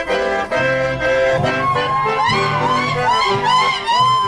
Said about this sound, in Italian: Quello che si ascolta è un sapucai. Il sapucai è una manifestazione del chamamesero. Si può gridare il sapucai come un festeggiamento, come una sfida, una rabbia o per sciogliere una grande emozione.